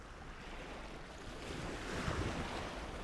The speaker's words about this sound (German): einfach bei Google Meeresrauschen eingegeben und schon habe ich das gefunden